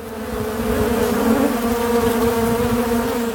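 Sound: buzzing bees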